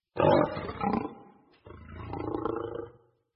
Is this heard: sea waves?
no